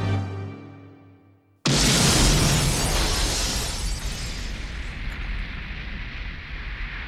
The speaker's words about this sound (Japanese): 任務完了。 ボーンの設置した爆破が始まります。